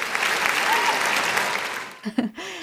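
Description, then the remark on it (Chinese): A burst of audience applause for a tour group leader, steady dense clapping for about two seconds before it fades out and a voice starts speaking. “哇，也此处应该有掌声。”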